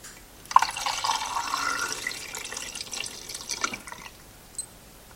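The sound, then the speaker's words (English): Film developer is poured steadily into a film developing tank for about three seconds, a splashy gurgling stream that tapers off, followed by a faint click. “I'm going to take the rubber lid off, and I'm going to pour in the developer and start my stopwatch as soon as it's all in.”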